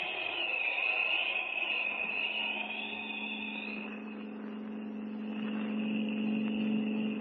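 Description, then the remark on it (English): A steady engine drone runs throughout, a constant low hum with a faint whine above it, from a car driving along at an even pace. No one speaks. “Slow down, Spud. Pull up at that gas station and fill the tank.”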